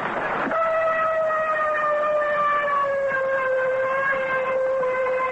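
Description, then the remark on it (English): A ship's siren sounds one long, steady blast signaling that general quarters is over, off the Normandy invasion beaches on D plus one. It is a loud reedy tone that sags slightly in pitch as it holds for several seconds after a brief rushing start. No voices. “There's the siren signal. The DQ General Quarters is over.”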